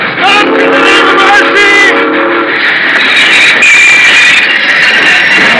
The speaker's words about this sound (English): I've won this time. I've stopped the train.